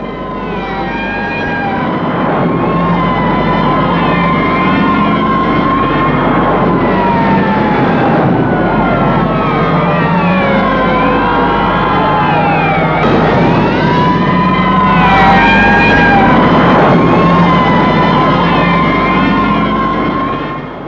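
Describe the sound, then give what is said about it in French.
Sirens of fire engines and police vehicles wail and overlap continuously for about twenty seconds as they arrive at the scene of an attack in Paris, their pitches sweeping up and down over a steady rumble of engines, loud throughout with no talking. “Enfin, les pompiers, la police est arrivée.”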